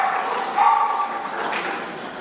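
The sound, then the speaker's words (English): A dog barks and yips excitedly in a continuous run during a church service, its way of clapping along with the applause, loudest near the middle, against a busy background with some voices. “do you know why Reese does that? Because dogs can't clap.”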